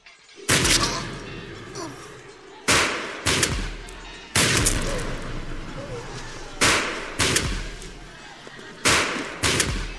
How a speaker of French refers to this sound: L'artillerie et la mousqueterie en couchèrent par terre près de 60, et le reste fut obligé de revenir dans ses rangs.